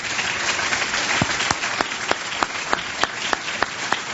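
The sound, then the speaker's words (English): An audience at a Tiger Bay Club event applauds steadily for two congressional candidates, a dense wash of many hands clapping, with one louder clapper beating out a regular rhythm on top throughout. “Now you can clap for both of them.”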